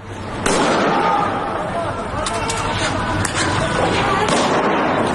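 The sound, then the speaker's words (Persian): Several sharp gunshot cracks ring out at irregular intervals over a constant roar of crowd noise and shouting, echoing in a street: security, military and police forces in Iran firing directly at protesters, in Tehran around Sharif University or in the streets of Sanandaj. “تصاویر بسیاری از شلیک مستقیم نیروهای امنیتی، نظامی و انتظامی به مردم معترض منتشر شده.”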